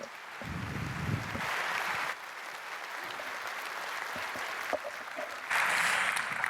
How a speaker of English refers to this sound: Big round of applause, please.